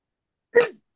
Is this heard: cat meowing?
no